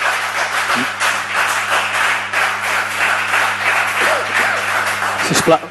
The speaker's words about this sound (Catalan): Sisplau. Els aplaudiments a la sessió plenària ja els tolerem al final de cada intervenció, doncs almenys deixem que es facin senceres, i si després ho creuen convenient i volen aplaudir, però deixem que almenys es fan les, perquè si no, no acabarem